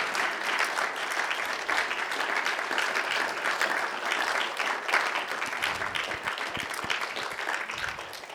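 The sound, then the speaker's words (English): Sustained applause from a crowd, a dense steady patter of many hands clapping at an even loudness for about eight seconds, tapering only slightly at the end. “So would you, on my behalf, and as if it was coming from me, would you give them a round of applause for all their years here?”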